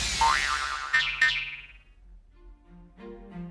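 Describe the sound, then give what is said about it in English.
A springy cartoon boing with a wobbling, warbling pitch rings out, followed by a second sharp twang, then a few low, soft tonal notes trail off, as Pinocchio throws one of Geppetto's hammers at the talking cricket in a telling of the Pinocchio story. No one speaks. “"You horrid old cricket," Pinocchio said, and threw one of Geppetto's hammers at it.”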